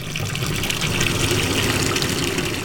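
Water pours steadily into a tub, a continuous rushing and gurgling that holds an even loudness throughout, with no voices.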